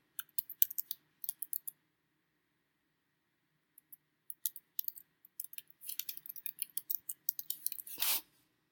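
Quick bursts of keyboard typing, crisp clicky keystrokes in irregular runs with a brief pause midway, ending in a slightly louder clatter. Fairly quiet, with no voices.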